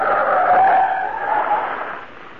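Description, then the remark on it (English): A speeding truck skids, its tires letting out a loud, sustained screech with a rough engine roar underneath, lasting a couple of seconds before easing slightly. No one speaks. “Mr. Britt, that's very narrow escape. Truck go very fast.”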